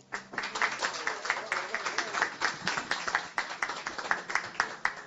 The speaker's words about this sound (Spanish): Ustedes pueden saludarlo con un aplauso.